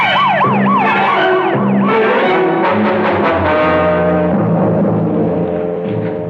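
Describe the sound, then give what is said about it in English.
A police car siren wails in quick rising-and-falling sweeps as the car speeds off to the precinct house, then gives way to a loud, dense blend of droning engine and horn-like tones that carries on steadily to the end. “Hit the gas and turn on the squealer.”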